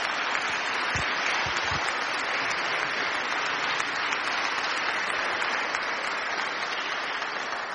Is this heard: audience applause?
yes